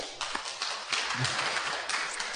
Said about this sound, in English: That was the most tepid applause I have ever heard in my life. And that's okay. That's fine